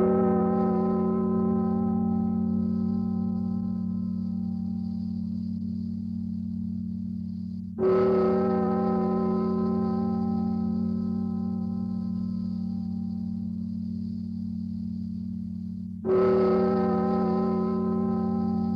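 A deep, ominous bell tolls three times at the start of the opening track of an album, about eight seconds apart, each strike ringing out with a rich, slowly fading hum that carries into the next. No voices.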